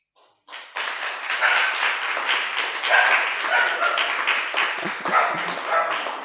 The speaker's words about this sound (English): My God. Thank you, puppy.